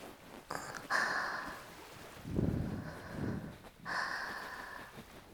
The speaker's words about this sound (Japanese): 海と安心できる人と来るとすっごく落ち着くし、波の音聞いてるだけでも満足できちゃうし、君もそうじゃない？